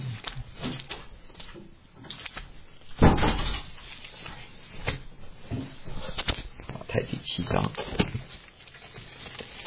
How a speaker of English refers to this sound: Close the door.